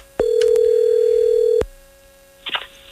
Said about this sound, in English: I'll try to call her. Cool. As long as I know how to dial a phone number.